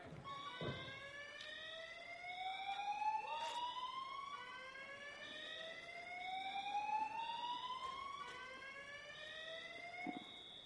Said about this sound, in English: I think it was just an alarm.